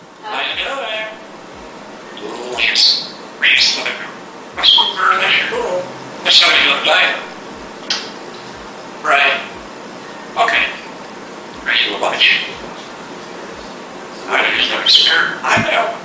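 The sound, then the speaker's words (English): A bird imitates the dialing beeps of a cordless phone, dialing seven digits: short, bright electronic-like beeps spaced by brief pauses, loud with a slightly raspy edge. “And wow, I just realized, the bird actually dialed 7 digits, like a real phone.”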